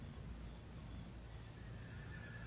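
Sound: stallion whinnying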